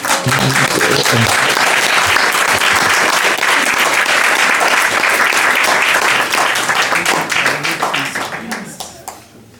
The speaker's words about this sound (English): So we will request Madhu Chanda with a massive round of applause.